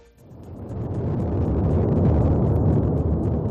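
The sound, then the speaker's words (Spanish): A deep, continuous rumbling roar swells within the first second and holds steady and loud, thick with low crackling bursts: the Cumbre Vieja volcano erupting on its 13th day, roaring with increasing explosions. “Y como escuchamos, no deja de rugir, ha incrementado también sus explosiones, aunque los expertos insisten en que el volcán mantiene cierta estabilidad.”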